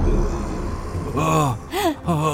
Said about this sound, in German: Und ganz hinten im Schloss hört man ein tiefes und sehr unheimliches Grollen.